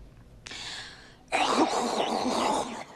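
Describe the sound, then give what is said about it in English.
A voice imitates the phlegmy rattle in a man's snoring: a brief breathy hiss, then a louder, longer raspy gurgle from the throat lasting over a second, with no words spoken. “Now it's kind of got like this phlegm rattling thing happening behind his...”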